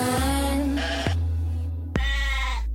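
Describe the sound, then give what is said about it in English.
A goat bleats loudly, three wavering, drawn-out cries following one another in quick succession with no one talking. “Ooh, was that a goat?”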